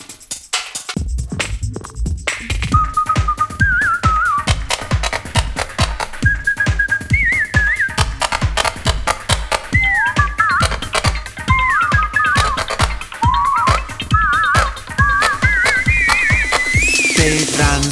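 A bright whistled melody with wavering, sliding notes plays over a steady, driving rhythmic beat, staying loud and continuous throughout with no voices.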